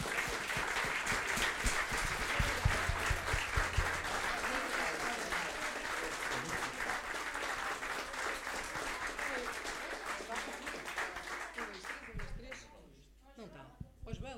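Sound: applause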